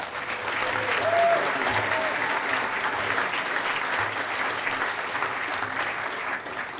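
A crowd at a convention claps steadily and loudly for Rhodey and the security staff, a dense wash of applause lasting several seconds, with a few faint whoops and voices mixed in.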